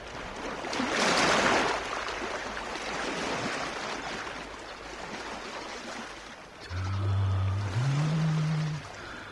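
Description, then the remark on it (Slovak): Soft, steady wash of gentle waves on a calm, crystal-clear sea, with a broad surf hiss swelling early, then settling; near the end a low tonal hum, like a boat horn or engine, rises over the water. “More. Pokojné, priezračné ako kryštál.”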